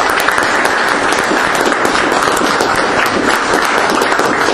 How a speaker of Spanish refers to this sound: Bueno, compañeros, así que también quisiéramos dar un saludo especial a la gente de la Alianza Nueva Nación, que también está presente. Un aplauso para ellos.